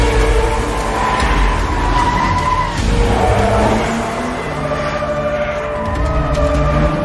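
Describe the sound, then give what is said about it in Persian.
The engine of a car being stolen revs loudly and steadily as the vehicle drives off, its pitch rising and falling with a brief tire-skid squeal mixed in, continuous for several seconds. “دارم ماشین میدوزدم.”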